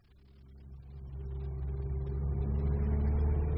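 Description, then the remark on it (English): A car engine idles with a deep, steady rumble that swells louder over a few seconds as it revs up, with no voices. “We must collect the car and be on our way.”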